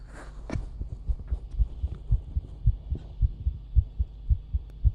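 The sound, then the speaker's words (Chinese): A young woman's fast heartbeat thumps steadily, faster than most people's. Each beat is a soft, deep double pulse repeating at a quick, even pace over a faint background hum, with no voices. “是小姐姐的心跳音，比一般人会快很多。”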